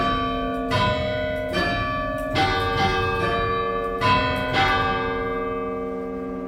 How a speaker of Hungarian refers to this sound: és pénteken szintén ez a Krisztus Vincit szól 14 óra 58 perckor, ugye már 15 órakor harangozunk minden pénteken, mert akkor halt meg ugye Jézus a kereszten, és ennek az emlékére szól.